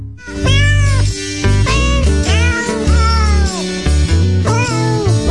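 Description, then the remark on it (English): A cat meows repeatedly, about five drawn-out, loud meows with rising and falling pitch, one after another over steady low background tones, with no talking. “We're trying to brush up on our cat ease here on this Christmas Eve installment of Motor Mouth Radio. The feline language, yes.”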